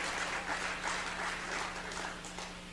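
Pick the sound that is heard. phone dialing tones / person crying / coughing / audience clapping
audience clapping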